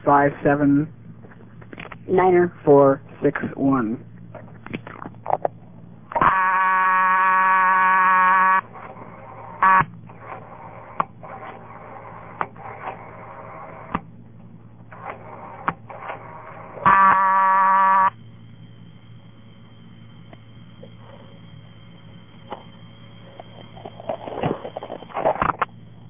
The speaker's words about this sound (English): Now I'll dial the number of the payphone,